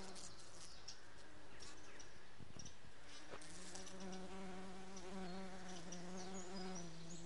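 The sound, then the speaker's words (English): A dense, continuous drone of many bumblebees buzzing as they feed on nectar on a hillside, their overlapping hums rising and falling, with faint bird chirps in the background. “I think I'm going to leave these bumblebees to get on with what they do best”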